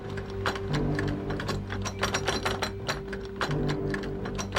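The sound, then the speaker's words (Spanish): Metal clicking and rattling repeats in quick, uneven bursts as a man tries to force the lock on an apartment's front door, over a steady low mechanical hum. “Al mirar por la mirilla, notó que un hombre intentaba forzar el cerrojo.”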